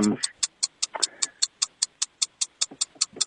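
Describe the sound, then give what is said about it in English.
A clock ticks in a steady, fast rhythm, about five sharp clicks per second, clear throughout, with a brief murmur of voices early on. “And the ticking's driving me nuts.”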